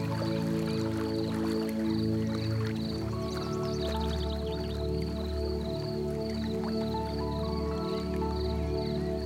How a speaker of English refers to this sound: You listen to the sound of the trickling stream as the sun sparkles on the surface of the water. And the sound of trickling water fascinates you and brings your awareness to the present moment.